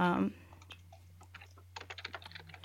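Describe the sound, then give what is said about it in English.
Rapid keyboard typing by the speaker, a run of light plastic clicks in an uneven rhythm, fairly quiet over a steady low hum, after a brief louder burst at the start. “Oh, I hear somebody typing.”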